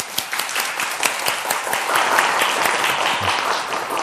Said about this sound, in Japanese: これからの兄弟の、主の働きのために、またその歩みのために、私たちは大きな祝福の拍手をしたいと思います。